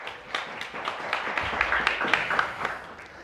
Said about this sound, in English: Welcome. Round of applause.